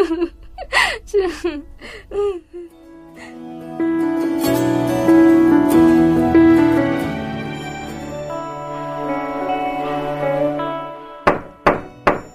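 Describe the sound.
Several quick, solid knocks on a door ring out close by, then give way to a longer stretch of sustained voiced or tonal sound before another short burst of knocking closes it.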